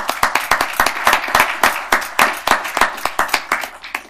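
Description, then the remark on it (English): A round of applause from a small group, thanking the outgoing board chair of Venture Portland for his service: steady overlapping claps at a quick rhythm, fairly loud and sustained for several seconds with no voices. “And it is our great tradition to thank people with a round of applause when they're with us.”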